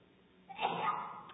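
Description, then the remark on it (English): A single sneeze rings out from an audience member during a sermon, a short sharp burst that trails off quickly, fairly faint against a quiet background. “Bless you.”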